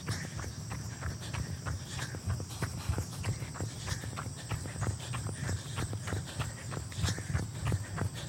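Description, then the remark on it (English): Quick, steady running footsteps going downhill during a 15-second running drill, thudding in a regular rhythm, with a constant high insect-like buzz of crickets in the background and no one talking. “I am going downhill, so don't listen to my footsteps.”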